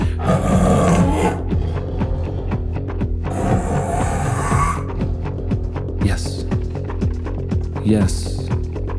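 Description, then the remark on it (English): A man's voice imitates a tiger, producing a series of loud, gravelly roars and growls that swell and break off, with brief laughter and background noise between bursts. “We would like for you to be a tiger.”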